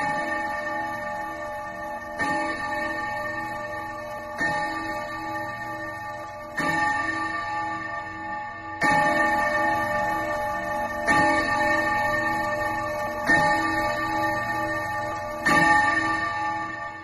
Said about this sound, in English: The mouse ran up the clock. The clock struck eight.